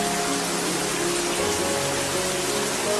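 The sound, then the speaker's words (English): Heavy rain pours down in a steady, dense hiss that fills the whole space, constant and loud with no pauses. A faint low hum sits underneath, and no one speaks. “It's really, really raining right now.”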